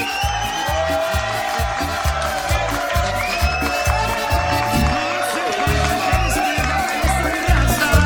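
A crowd cheers and claps steadily throughout, a dense wash of noise mixed with loud, rhythmic music thumping underneath.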